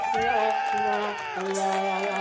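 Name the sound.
audience cheering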